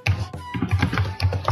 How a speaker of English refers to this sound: And somebody's just pounding on their keyboard